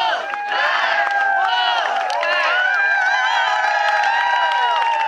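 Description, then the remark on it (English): Dozens of fans lining the sidewalks outside Reynolds Coliseum cheer and shout together for the Wolfpack women as the team gets off the bus after its Final Four trip. A dense, steady wash of high-pitched voices and whoops with no pauses, loud throughout, with occasional claps mixed in. “There you hear dozens of fans lining the sidewalks outside of Reynolds Coliseum.”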